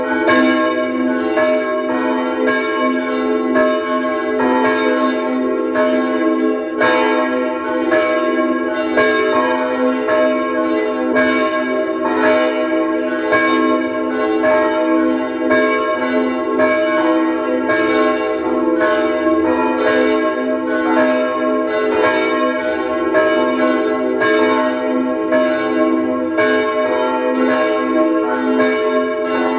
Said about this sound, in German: Es ist 12 Uhr. Sie hören die Glocken der Pfarrkirche Neulerchenfeld im 16. Wiener Gemeindebezirk.